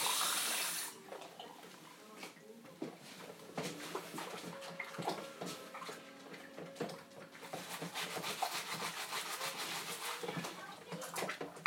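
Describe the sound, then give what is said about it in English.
A tap gushes for a moment, then water pours into a glass amid light clinks and handling noises, with faint background murmurs. “No, just throw a glass of water real quick.”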